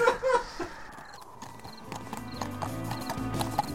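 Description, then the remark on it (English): Horse hooves clip-clop in a steady rhythm, fairly loud at first, then slow and come to a halt as two knights rein in their horses at sunset, with a brief whinny and soft rustling around them. “So it's sunset when two knights pull up rain. One of them gets off the horse, the other one kind of leads it just a few feet more.”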